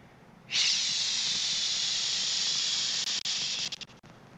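A simulation of constant tinnitus in a person's right ear: a steady, loud, high-pitched hiss, like a continuous rush of static, starts abruptly after half a second and holds without change before breaking up in a few quick dropouts near the end.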